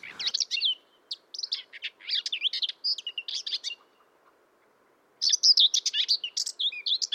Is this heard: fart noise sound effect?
no